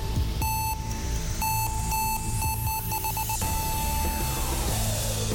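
A loud heavy metal cover of a pop song, taken from YouTube and recorded on a phone in a large bathroom, with dense distorted guitar and a shrill, beeping lead melody ringing over a steady, driving wall of sound for a few seconds.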